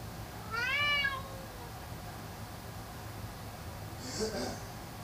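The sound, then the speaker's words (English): A female pet cat gives one clear, drawn-out meow, followed a few seconds later by a softer, breathy sound, over a steady low background hum. “But I have a cat and I care about her very, very much.”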